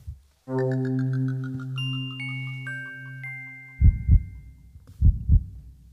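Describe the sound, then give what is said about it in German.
A sustained, tense synth chord with chiming tones gives way to a loud heartbeat sound effect marking the excitement of unwrapping a gift: two deep lub-dub double thumps about a second apart, with no talking. “Da macht der Herzschlag auch nach langer Zeit mal wieder Sinn.”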